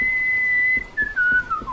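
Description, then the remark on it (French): A character whistles a clear, steady melody that steps gradually downward in pitch, fairly loud, with a faint background hum and a few soft low thumps underneath. “Vous avez peut-être entendu, c'est pas moi qui ai sifflé, c'est lui. Sifflé Singing in the Rain”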